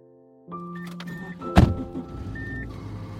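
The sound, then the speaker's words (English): Inside a car, steady tones hum as it starts, then a single loud door thunk lands before a low engine rumble settles in as the car pulls away from a driveway. No voices. “As I hop in the car and pull away from Eric's driveway, I'm leaving his world for a second time.”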